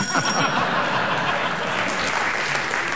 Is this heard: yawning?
no